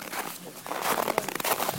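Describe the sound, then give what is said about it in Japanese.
Crunchy footsteps pressing into packed snow on an uncleared mountain path in Seoul, a few days after snowfall, a quick run of gritty crunches in a steady walking rhythm that grows a little louder toward the end. “ザクザクザクと、これは雪を踏みしめてる音なんですけど、数日前にソウルに雪が降りまして、でその雪がですね、ここは山道なもんでまだ除雪されてなくてそのまま残ってて、こうやって雪を踏みしめる音がそのまま聞こえます。”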